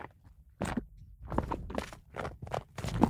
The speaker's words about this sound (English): can you add some going downstairs sounds?